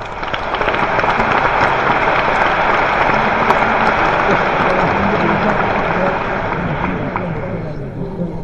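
An audience claps steadily for several seconds as designer Pierre Bernard, a founder of the Grapus collective, is introduced, a loud, dense wash of many hands with no break, easing slightly toward the end.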